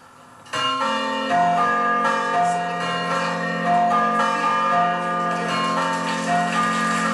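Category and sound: signal or alarm, church bells ringing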